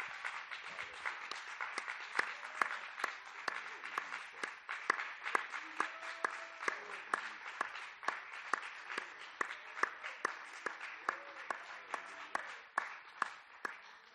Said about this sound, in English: Let's give a hand clap to the Lord, a really loud hand clap to the Lord.